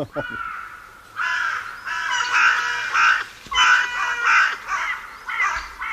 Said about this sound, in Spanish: Y esto que viene ahora es un despertar, un mal despertar en un dormidero de cornejas.